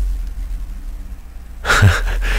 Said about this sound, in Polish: A ja tu mam jakiś samochód, słuchajcie, z sound systemem za oknem, który robi mi takie basy.